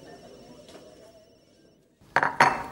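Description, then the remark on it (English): A teacup and dishes clink together as tea is served, in two quick, bright knocks after a couple of seconds of near silence, the second clatter slightly longer and ringing. “Your tea?”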